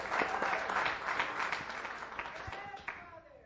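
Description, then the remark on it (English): A church audience claps together in praise of the Lord in a dense, steady burst of applause that holds for a few seconds, with voices calling out over it before it thins toward the end. “Let's give a clap of praise unto the Lord.”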